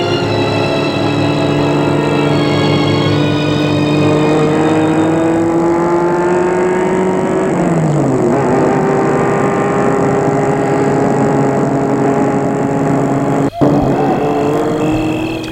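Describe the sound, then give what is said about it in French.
A car driven by a chauffeur to a property hums steadily, its engine pitch rising and falling as it drives, with a brief clunk near the end as the car stops in front of the property. No voices. “Enfin, la voiture s'arrête devant la propriété.”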